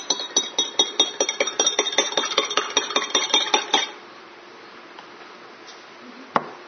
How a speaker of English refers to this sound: Now that it's settled, the oil is separate from the water. Now I'm going to stir it. Watch what happens when we stir it. And I'll hold it in case it falls.